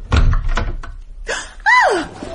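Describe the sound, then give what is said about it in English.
A door is unlocked and swung open: a few sharp metallic clunks and rattles, then a loud, wavering hinge creak that rises and falls in pitch as the door moves. “Honey, I could have sworn as I locked this door.”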